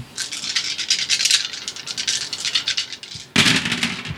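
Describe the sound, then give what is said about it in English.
Dice, including black dice, rattle steadily in a cup for about three seconds, a dense clatter of quick clicks, then spill out with a sudden louder burst of tumbling. No one speaks. “Black dice yield nothing.”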